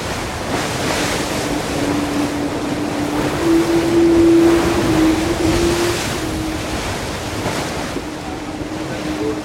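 Waves wash and slap steadily against a sailboat's hull at sea, a continuous loud rushing with gusts of wind buffeting the microphone and a faint droning tone rising and fading in the middle.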